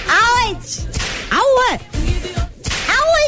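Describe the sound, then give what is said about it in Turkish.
Several loud whip cracks, each a sharp snap, come with rising-and-falling swooping tones that sound like a voice imitating the lash's swish. They repeat in bursts about a second apart. “Abicim kırbaçlar mısın diyorlar.”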